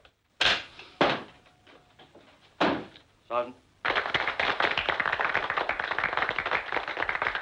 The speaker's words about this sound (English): Glancing over, the gun sergeant looks amazed at the recruit's progress. Clicking the trigger, Charlie's done.